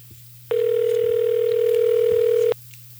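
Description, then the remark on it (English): A single steady electronic telephone ring tone heard down the line, one unbroken two-second burst against a low background hum, with no one speaking. “Well, this one's ringing better than the last one.”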